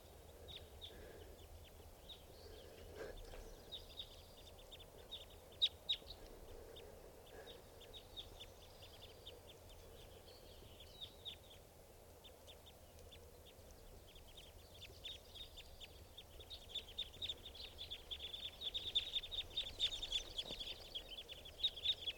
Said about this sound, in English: big flock of crossbills just flew in here. Sound like type twos must be about 10 or 12 birds. And they're perched up on the top of a tall Douglas fir right here by the camp. And the birds are just fluttering around and flying.